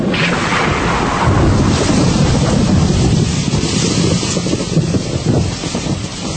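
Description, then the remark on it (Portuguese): A loud, steady roar of heavy rain mixed with a blustery gust of cold wind, rumbling low and hissing throughout, continuous with no voices. The rain grows fiercer and the cold gust blows out an oil lamp and a candle. “A chuva aumenta sua fúria e uma rajada de vento frio apaga a lamparina e a vela.”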